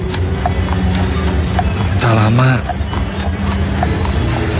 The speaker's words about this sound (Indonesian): Sangat jelas terdengar suara derap lari kaki kuda dan juga kereta kudanya.